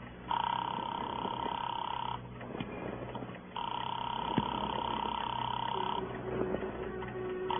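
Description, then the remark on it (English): A telephone call to Gilbert's jewelry shop at 11:30 at night rings through the line, heard as two long, steady buzzing rings separated by a pause, thin and muffled as if on the caller's earpiece, with faint background murmur. “Call up Gilbert's jewelry shop.”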